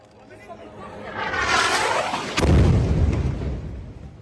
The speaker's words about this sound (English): Journalist Ahmed Ibrahim captured the explosion on camera.